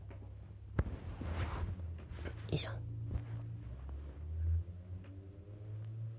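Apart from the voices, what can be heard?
motorcycle passing by outside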